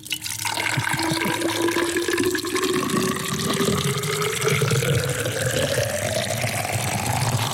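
A loud, continuous pour of water into a container, splashing steadily while a resonant tone rises in pitch as the vessel fills up, with no voices over it.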